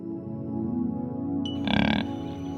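A pig grunts in low, rumbling snorts, breaking into a louder, harsher squealing grunt for a moment before settling back to low grunting.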